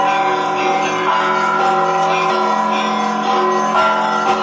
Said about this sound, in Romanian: În centrul satului, la biserica lipovenească, bate mai întâi o toacă, apoi clopotele pe trei voci.